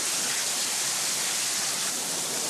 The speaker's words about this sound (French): On a pris la pire pluie qui puisse arriver. On était en train de se protéger sous des rochers, mais là, ça devient dangereux en fait.